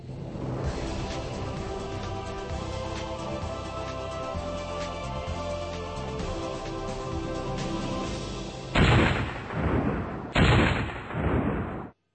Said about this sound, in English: The sound of explosions from a controversial new internet game called Total Burnout of Lidice.